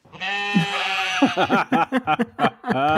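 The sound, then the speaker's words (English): A person's voice loudly imitates a sheep bleating: one long quavering baa followed by a run of short, choppy bleats and a final drawn-out cry. “What noise does a sheep make?”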